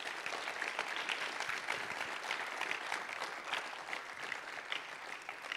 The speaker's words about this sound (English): Can we give a clap offering to God because we're born again?